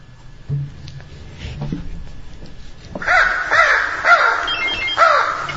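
A crow caws several times in a harsh, repeated rhythm, loud, after about three seconds of quiet low background rumble.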